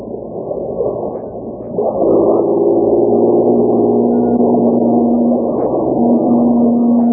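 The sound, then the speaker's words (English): A speedboat engine roars steadily as the boat heads across a smooth lake with not a ripple on a fine day, its low droning hum strengthening after a couple of seconds and then holding loud with a sustained tonal whine, no voices over it. “Gosh, Uncle Bill, did you ever see such a perfect day for a speedboat ride?”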